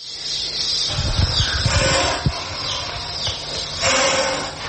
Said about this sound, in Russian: Змея.